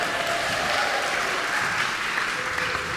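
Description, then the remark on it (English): An audience in the Memorial Church breaks into sustained applause on Senior Sunday, the seventh Sunday of Easter, a dense, steady wash of many hands clapping at even loudness for the full three seconds, with no clear voices above it. “Whoop, come on, you can clap right there.”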